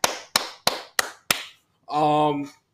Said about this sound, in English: Shout out to the Los Angeles Dodgers. Got to give some claps for them.